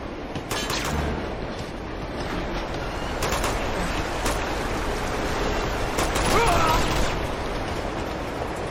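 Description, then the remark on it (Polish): A moving train rumbles steadily and loudly throughout, with scattered rattling clacks and a brief high metallic squeal partway through. “Pociąg jedzie i jedzie.”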